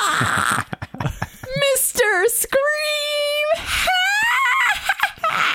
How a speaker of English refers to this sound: I didn't want to scream. I didn't really want to scream.